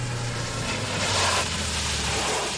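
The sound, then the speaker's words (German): A car engine rumbles low and steady, swelling slightly as the vehicle rolls in amid broad road and tire noise, then settles as it pulls up at a hunting lodge. “Und kaum waren wir auf dem Jagdschloss angekommen, da hörten wir ein Auto vorfahren.”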